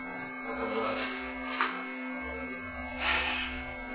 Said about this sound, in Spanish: ¿Tiene aire acondicionado? No, no hace mucho ruido.